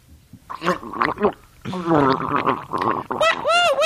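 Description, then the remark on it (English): Wet, bubbling gargling of water at a dentist's, to be spat into a spittoon, comes in several loud bursts, the throat's tone warbling and sliding in pitch, ending in a longer rolling gargle with rising and falling wobbly notes. “Yeah, don't spit that into the spittoon.”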